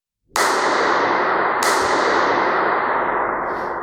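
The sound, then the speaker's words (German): A sharp crack sets off a dense, booming echo that fills a stairwell built specially to have as much echo as possible, at Metas in Wabern, Switzerland. A second snap lands partway through, and the reverberation hangs on loudly, fading only slowly. No one speaks. “Ein Stegenhaus, das extra so gebaut worden ist, dass es möglichst viel Echo hat.”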